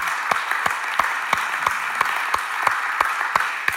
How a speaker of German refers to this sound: Ihr Lieben, können wir auch einen Applaus für diese Menschen, die uns einen schönen Kaffee machen, einen Cappuccino anbieten, dass der Ton stimmt und wie schon gesagt, ein Applaus euch und vielen herzlichen Dank.